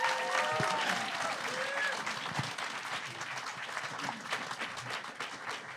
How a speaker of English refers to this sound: You've all made amazing points here today, and I think if everyone would like to give our debaters a round of applause.